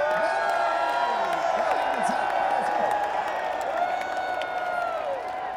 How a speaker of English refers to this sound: Hey, see that guy in the top Ferris wheel car? Whoever's in the top Ferris wheel car? Yep, waving right now. The whole crowd is gonna scream hard here now.